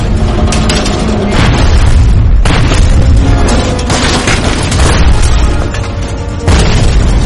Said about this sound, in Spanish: Con la ayuda del USS Flaherty, el Pittsburgh lanza el ataque del Erizo. ¡Abran fuego! La primera serie cae al agua y explota.